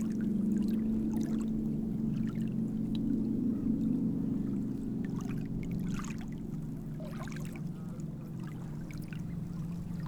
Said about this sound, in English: Behind the head of Hengistbury, there's an area of quiet. I noticed a wire fence and attached a contact microphone. There emerged an ethereal and harmonic hum as the sea breeze brushed through the wires.